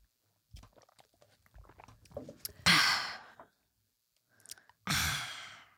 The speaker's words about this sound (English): Even hearing that after I took a sip made me thirsty again.